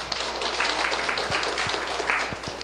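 A room full of people applauds, a dense, steady wash of many hands clapping at once, sustained and fairly loud throughout with a few sharper claps standing out near the end.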